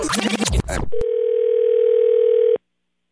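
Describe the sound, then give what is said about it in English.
A quick burst of dialing beeps, then a single steady, mid-pitched ringback tone lasting under two seconds as an outgoing phone call starts to ring: a fake call placed by a radio station in Atlanta, pretending to be a florist. No one speaks. “So what she does is she has us place a fake phone call to him pretending to be a florist.”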